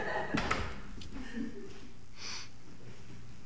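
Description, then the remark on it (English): A single muffled door bang lands near the start, followed by faint rumbling and soft shuffling noises. “That's the door? I thought it was a motorcycle or something.”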